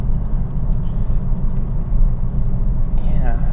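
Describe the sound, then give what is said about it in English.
A steady low engine rumble fills the cabin of a moving car in pouring rain, and near the end a short electric motor whine sweeps downward as a power seat is adjusted. “I gotta move my seat.”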